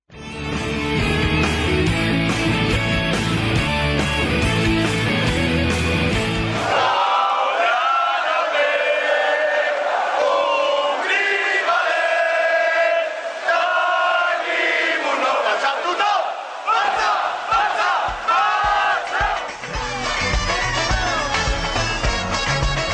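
A large crowd loudly sings the FC Barcelona club anthem in unison, full and continuous. Dense, roaring accompaniment opens the first few seconds before the massed voices carry on alone.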